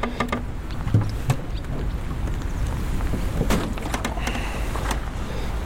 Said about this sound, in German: Es sieht nach Regen aus, dazu ein böiger Wind. Lässt sich nicht ändern.